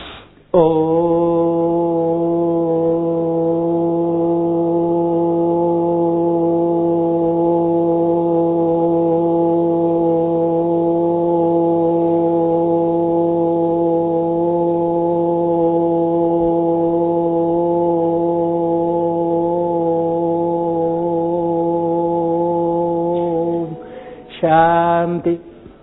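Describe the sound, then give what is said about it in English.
A single long chanted Om, practised as a breathing exercise, held steadily for over twenty seconds, a deep, even hum rich in overtones, then a quick breath and the start of another chant. “Om for a long period of time. So what will happen? That will expand your lung.”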